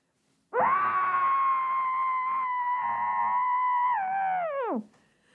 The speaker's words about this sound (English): Let's just scream. Let's scream it out quick. Hold on. I'll scream into a pillow, okay? You guys scream with, we'll just scream it out, okay?